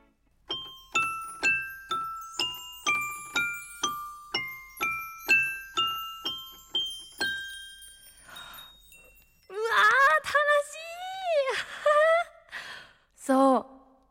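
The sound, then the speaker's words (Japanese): A crescent-moon piano plays a bright, steady run of about fifteen ringing notes, each struck cleanly and fading, for several seconds. Afterward, a voice lets out drawn-out, wavering exclamations. “わあ、これちょっと何か弾いちゃおうかな。”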